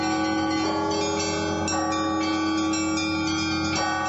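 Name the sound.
church bells ringing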